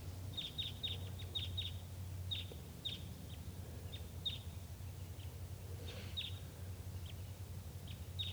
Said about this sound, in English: At 9:22 a.m., wild birds coming in. Sounds like type 2.